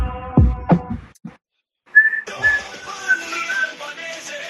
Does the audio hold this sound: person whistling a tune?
yes